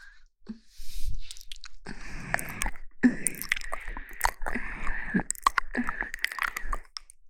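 Wet, crunchy chewing and biting, a steady run of irregular smacks and crunches for several seconds, fairly loud, with no talking over it.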